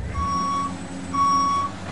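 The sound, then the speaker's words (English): Two steady, high-pitched reversing beeps, each about half a second long with a short gap between, ring out over a low engine rumble from a heavy construction vehicle. “And at Alpha and Omega, we understand that silence is not golden in the construction industry.”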